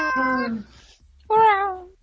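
A cat meows twice, clear, each call a drawn-out, whiny tone that slides downward, separated by a short pause of near silence.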